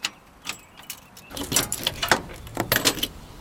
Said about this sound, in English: He opens the trunk to show off the hydraulic system.